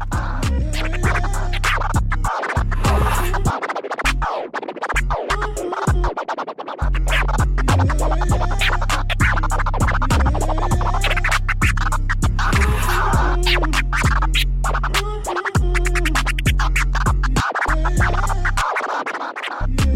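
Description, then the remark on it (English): A DJ's record scratching on the intro of a track cuts in and out over a loud, steady beat with thick bass, the quick scratches coming in short bursts between brief gaps in the music, no voices over it. “je sais que t'avais envie de scratcher sur l'intro de ce morceau”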